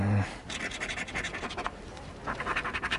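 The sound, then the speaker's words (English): Rapid, raspy scratching of a coin across a California Lottery "Millions in cash" scratch-off ticket, a steady run of short strokes with a brief pause near the end before another burst, heard on its own. “Millions in cash scratchers from the California Lottery are here”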